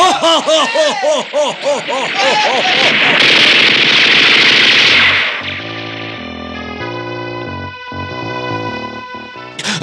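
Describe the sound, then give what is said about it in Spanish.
Wavering, sobbing cries give way to a loud, dense burst of rapid machine gun fire from a ship at men escaping in rowing boats, lasting a couple of seconds, followed by steady, droning tonal music that carries on to the end. “El bestial y gigantesco jato hace acribillar a los hombres que tratan de escapar en las lanchas de remos.”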